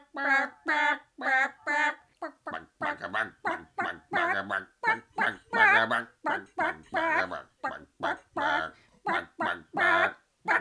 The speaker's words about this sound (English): I don't know what to say. This may be the most heroic chicken tune I have ever heard. I had no idea chickens are capable of such heroism.